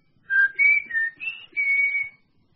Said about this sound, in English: When the coast's clear for a further conference, give me a whistle. Like this.